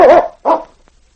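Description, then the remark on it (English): A dog, Yukon King, barks twice in quick succession at the constable's office in Whitehorse. The first bark is longer and more strained, the second short and sharp, with no voices alongside. “One afternoon, Sergeant Preston arrived with his dog, Yukon King, at the constable's office in Whitehorse.”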